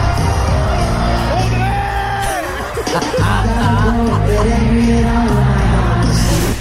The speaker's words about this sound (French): mon réflexe numéro un a été de crier le nom de mon ami à côté,